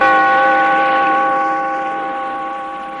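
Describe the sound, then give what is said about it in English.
A single deep bell tolls as the closing bell of the radio drama The Weird Circle, its ringing overtones hanging in the air and slowly fading over a few seconds. It is fairly loud, heard alone with no voices. “Bellkeeper, toll the bell.”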